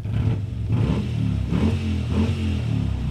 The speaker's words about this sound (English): And the Harley Revs.